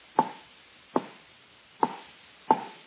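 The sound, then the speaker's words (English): An axe chops into a wooden telephone pole in Burbank, in fog, with four sharp, solid thwacks at an uneven, unhurried pace. Each blow gives a brief ringing knock that fades quickly. No voices are heard. “You just chopped down the only telephone pole in Burbank”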